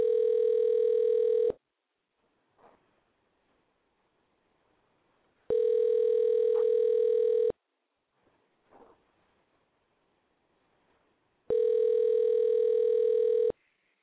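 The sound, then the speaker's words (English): An outgoing phone call rings three times, steady tone bursts about two seconds long separated by roughly four-second pauses, heard clearly through the handset with faint rustling between rings. “I'm gonna try calling somebody else. I don't know if they'll answer.”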